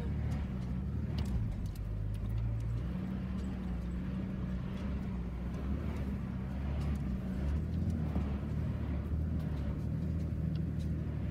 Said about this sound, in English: Horses and carts, yeah.